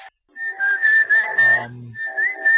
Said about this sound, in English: I have no idea what that whistling is supposed to mean at this point.